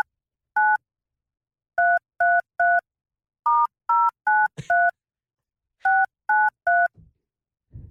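A telephone number in Ballyford, County Kerry, is keyed in as a series of short, steady two-tone beeps in uneven clusters, with a brief clunk of handling midway and soft rustle at the end.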